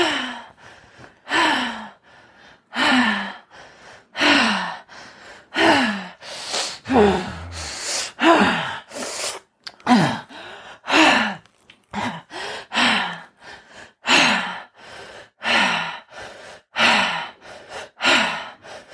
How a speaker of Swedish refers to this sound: Men bara fortsätter andas. Djupa, fina andetag.